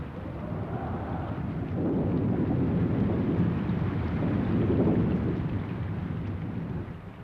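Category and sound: nature, rain falling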